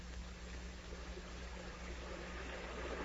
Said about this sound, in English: The water is still rising. It is almost washing against the foundations of your house. Oh, my orchards, my beautiful orchards. They are ruined. Look at them. Water rushing through them, tearing out the trees, carrying away the fertile land.